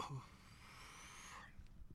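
A steady airy hiss of someone drawing on a Stizzy vape pen with Granddaddy Purp hybrid indica-dominant weed for about a second and a half, with a faint whistling tone, then it stops, leaving quiet low background noise.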